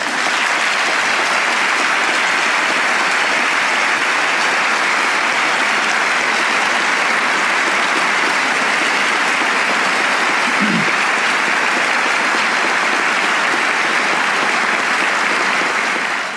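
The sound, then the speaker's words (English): A loud, sustained round of applause from a large crowd at a State of the Union address, for Bill Clinton's remarks on illegal immigration, steady dense clapping with no voices standing out, holding at full strength for about sixteen seconds before easing slightly at the end. “Interesting, rousing round of applause for former President Bill Clinton at a State of the Union.”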